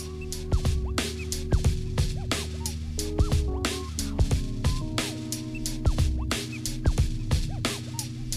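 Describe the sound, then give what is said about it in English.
A young girl, learning to play the drums, bangs on pots and pans in a loose, uneven beat, the sharp clangs ringing with metallic overtones, struck steadily and loudly over about eight seconds with no talking. “Learning how to play the drums on pots and pans right now.”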